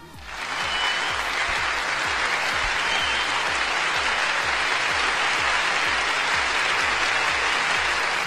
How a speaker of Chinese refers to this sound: 好的，那说了这么多，我们下面呢先还是掌声有请我们的陈总，让我们的陈总来和大家打个招呼。